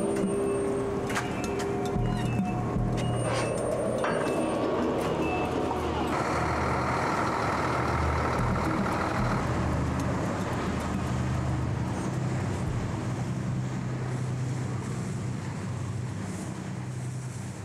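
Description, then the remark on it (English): Large tanker trucks at an LNG terminal, waiting to transport liquefied natural gas to other cities, rumble steadily, with intermittent high-pitched beeps and tonal whines early on, then a broad, continuous industrial roar fills the rest with no talking. “Large tanker trucks on the other side wait to transport it to other cities.”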